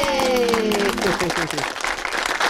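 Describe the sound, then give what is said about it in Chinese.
Loud, steady audience applause at a live music performance, with dense, continuous clapping, and cheering voices over it, including a long whoop that slides downward in pitch during the first second. “好，咁啊嚟噶啦，哇，俾掌声，耶！”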